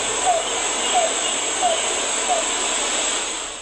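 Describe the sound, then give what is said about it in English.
A bird gives four short, squawking, hooting calls that dip slightly in pitch, evenly spaced about two-thirds of a second apart, faint beneath a steady wash of loud background hiss and noise. “As you can tell, there's a lot of noise in the background, but you could definitely hear that kind of a squawking, almost hooing, you know, like right.”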